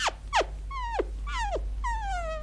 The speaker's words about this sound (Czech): Rozběhl se po vsi. Zaštěkal u každých vrátek.